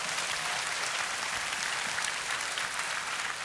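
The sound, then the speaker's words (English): A church audience claps steadily during a sermon, a dense, even wash of many hands applauding with no gaps and no voices rising above it. “Come on, clap your hands, show your love one more time.”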